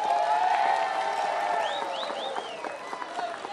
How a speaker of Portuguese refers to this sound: E isso só é possível porque nós temos como presidente da República uma pessoa que olha para as pessoas que mais precisam, como é o nosso presidente Luiz Inácio Lula da Silva, que eu peço a ele uma salva de palmas.